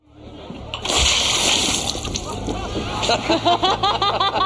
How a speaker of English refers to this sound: it empties and they make Noah spray water, seltzer all over himself